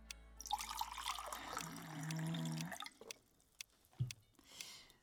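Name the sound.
water being poured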